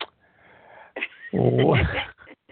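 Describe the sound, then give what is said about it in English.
A cat sitting by a person yowls at them: a loud, drawn-out yowl, its pitch bending as it goes, after a softer, lower murmur from the animal. No one speaks. “I have a cat sitting here yowling at me, and I'm trying to get rid of him.”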